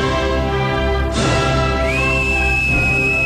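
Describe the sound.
A person whistles loudly, mimicking the stadium crowd's whistling at the Copa del Rei final in Valencia: a noisy rushing burst slides into one shrill, steady whistle held for over a second.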